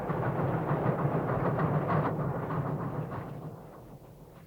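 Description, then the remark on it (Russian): A moving train rumbles steadily on its rails, a dense low roar with faint rhythmic clatter that gradually fades and thins toward the end. No one speaks. “Вот двое прыгнули с поезда.”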